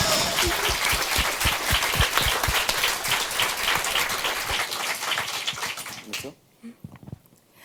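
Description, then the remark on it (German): A crowd bursts into dense, lively applause for a project group, with many hands clapping at once, sustained for several seconds before tapering off quickly into a few scattered claps and quiet. “Nochmal ein Applaus für die Gruppe erstmal, also für uns.”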